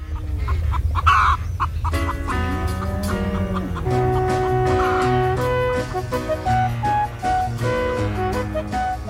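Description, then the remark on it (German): Hens cluck in a henhouse for a couple of seconds before a full, bright band recording swells up and plays on, with an occasional faint cluck beneath the music. “So, jetzt aber schnell zurück zum Hühnerstall.”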